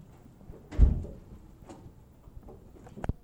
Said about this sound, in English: close the door, if you will, please.